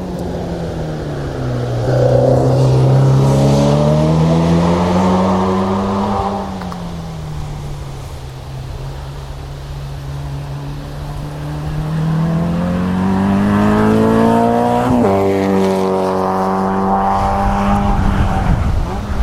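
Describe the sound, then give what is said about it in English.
Racing cars scream past at speed at a motorsport event, their engine whine climbing and then dropping as each one goes by, two loud passes separated by a quieter stretch with wind blowing in the trees on a windy day. “I like my motorsport.”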